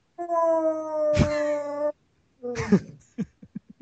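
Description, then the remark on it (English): A pet dog named Stoli howls in a long, steady, drawn-out wail, then breaks into a shorter second howl trailing off into a few quick yips, loud with no talking. “I can't read the lyrics on the screen because I'm a dog.”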